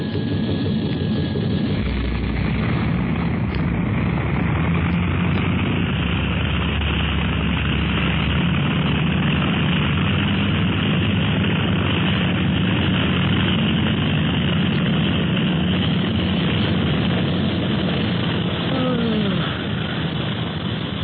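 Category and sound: vehicle, propeller plane engine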